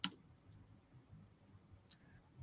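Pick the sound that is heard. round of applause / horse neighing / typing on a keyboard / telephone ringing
typing on a keyboard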